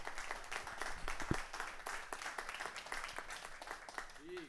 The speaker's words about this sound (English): Glory to God. This is exciting. If you are excited, give the Lord a clap offering in this house.